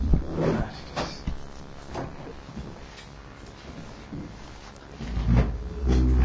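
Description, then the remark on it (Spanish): Chairs scrape and knock as people shift and stand up and a couple leaves their seats, with a few sharp clunks and a louder rumbling drag toward the end, no voices. “Se van moviendo las sillas, se levantan, se despide la pareja, protagonista del intercambio anterior.”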